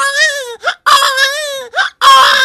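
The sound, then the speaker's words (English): A voice imitates a crying baby: three loud wailing cries with wavering pitch, separated by short gasping breaths, with no talking. “I could do a baby, and I was like four, and I was running around the house”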